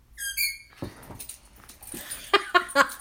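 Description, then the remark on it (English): A dog, Zappa, lets out a short, high-pitched whimper with a wavering, stepped tone, followed by quick pattering movement and several sharp, bright bursts toward the end, as it goes and gets a thrown tennis ball with an unusual squeaker. “Zappa just went and got it.”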